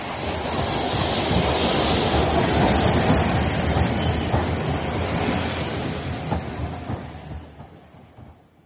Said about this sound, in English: There's Mother's train. I'll stay with him till you bring Mother in.